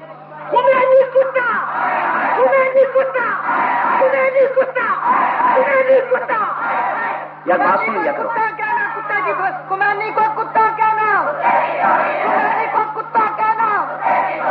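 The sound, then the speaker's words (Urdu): A large crowd at a religious speech chants slogans in unison, loud and sustained, with many voices rising and falling together; the chanting breaks off briefly midway, then surges back just as strongly. “میرے التماس ہے میری بات پوری سن لیا, بات پوری سن لیا کرے, نعرہ اختصار کے ساتھ میری بات تو مکمل ہو جانے دیا کرے.”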